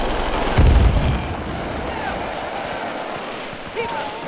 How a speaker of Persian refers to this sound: آتش سنگین داره رد و بدل میشه.